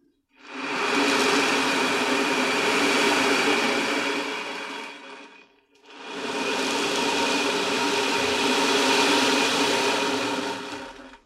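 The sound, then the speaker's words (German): Two long surges of sea waves rushing in, each a broad hissing wash that swells up, holds for several seconds, then drains away, with a brief quiet gap between them and no voices. “Bis auf das Meeresrauschen ist kein Laut zu hören.”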